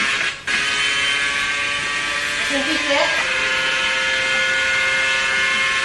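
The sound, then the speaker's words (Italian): Onboard camera audio from Vettel's Formula 1 car: the engine drones as a loud, steady, buzzing whine, with a brief cut near the start like a gear shift and a short pitch wobble midway. A voice speaks briefly. “A parte quando cambio le marce.”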